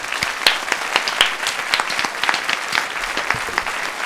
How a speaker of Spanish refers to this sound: Un aplauso para Elena Granell, por favor.